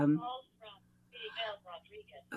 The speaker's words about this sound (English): Sorry, my phone's ringing. I can't turn it off.